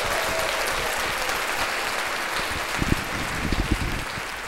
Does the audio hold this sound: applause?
yes